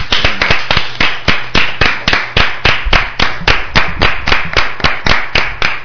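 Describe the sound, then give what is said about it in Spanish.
Steady, rhythmic applause, hands clapping at about four claps per second, loud, continuing evenly for several seconds with no voices. “Y nada, desde aquí pues también un fuerte aplauso y esperemos que pronto vuelva con nosotros.”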